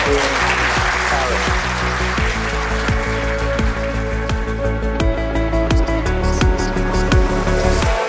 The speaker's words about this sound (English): Wow. Thank you. Can we give a round of applause to both?